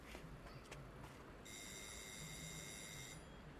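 doorbell ringing

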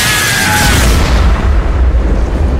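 explosion

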